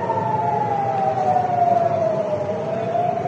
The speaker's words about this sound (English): Earlier on Wednesday, a missile streak was seen in the sky near Tel Aviv as sirens blared.